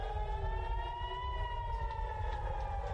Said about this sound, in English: With sirens blaring and air defenses intercepting the missiles, alarms across Israel sent people scrambling for their air raid shelters.